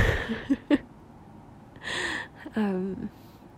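yawn

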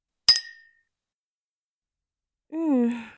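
glasses clinking

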